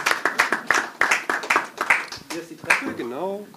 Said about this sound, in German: Ja, bitte, kommen Sie gerne nach vorne. Kommen Sie, kriegen Sie auch Applaus dafür.